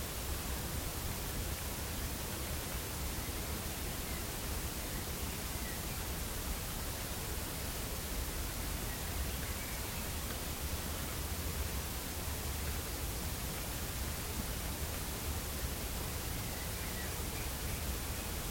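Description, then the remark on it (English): Steady rain falls in a dense, unbroken hiss that stays even from start to finish, soft but constant, with no voices or other sounds breaking through. “Now the rain has passed, noticing the silence, the bird song,”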